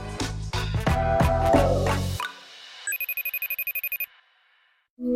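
A FaceTime video call ringtone, from a call placed to a UK-based journalist: a fast, bright electronic trill pulsing about a dozen times for roughly a second, right after a loud musical passage ends, with a voice starting just afterward.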